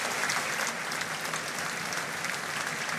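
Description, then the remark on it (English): Steady, sustained applause from a large crowd in a hall as members of the church and officiants make their way through to take their seats, a dense wash of many hands clapping at an even loudness throughout, with no voices standing out. “You can hear the applause there as the members of the church and the officiants are making their way through now.”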